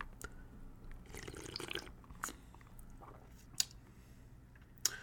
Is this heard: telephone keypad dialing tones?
no